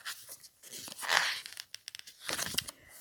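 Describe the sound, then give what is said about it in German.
A paper page being turned: a broad rustling sweep, a few crisp crinkly ticks, then a second papery swish, with no talking. “So, jetzt muss ich mal hier umblättern.”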